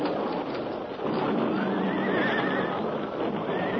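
Stagecoach horses on a narrow mountain trail whinny loudly and shrilly, their wavering neighs rising and falling over several seconds against a dense, rumbling backdrop, with no one speaking.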